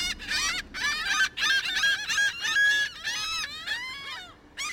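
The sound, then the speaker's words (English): A flock of birds calls nonstop, harsh honking cries overlapping one another in a dense, steady chorus that stays fairly loud throughout, with no talking. “Not to mention, while driving a car, you can't just relax and tune in to the birds all around you.”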